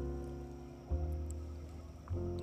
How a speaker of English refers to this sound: These boys like to run and gun. You can hear the motors starting up. It's pretty exciting. I like the start of a boat tournament.